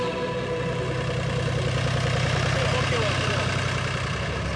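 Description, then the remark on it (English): A tractor loaded with gift boxes for children runs steadily at idle, a loud, continuous low rumble with a throbbing chug that never lets up, with muffled voices in the background. “Today, we are blessed to have a tractor, and it's fully loaded with gift boxes that we are going to send to these children.”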